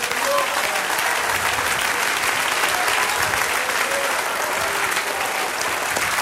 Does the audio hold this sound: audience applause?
yes